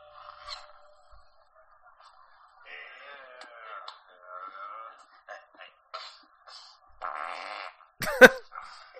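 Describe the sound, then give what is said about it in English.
A string of thin, squeaky fart noises in a movie's post-credit scene, buzzing and wavering at moderate volume, broken by short pauses, then one brief, louder sputtering burst near the end. “Yeah, he has to buy the next round because his fart was so pathetic.”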